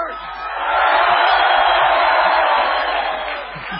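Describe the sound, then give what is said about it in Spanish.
A crowd at La Venganza Será Terrible in San Nicolás shouts together in a loud, sustained roar of many voices, swelling quickly and holding steady for a few seconds before easing slightly at the end. “Podríamos aprovechar para gritar, para demostrar lo muchos que somos. Gritemos.”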